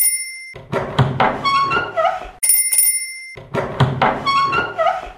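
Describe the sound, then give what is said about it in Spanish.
The doorbell of bungalow number 103 chimes twice, each ring a bright cluster of bell tones stepping through a short melody, with a brief harsh burst of ringing between the two. “El 8 de mayo del año 2008 sonaba por primera vez en este espacio ese timbre de un bungalow, el número 103, y se abría la puerta a la audiencia interesada por el sector de los viajes, de las vacaciones y del ocio.”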